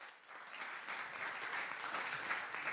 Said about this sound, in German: Vielen, vielen Dank für diesen sehr interessanten Vortrag. Gebt Ihnen nochmal eine Runde Applaus für unsere beiden Vortragenden hier.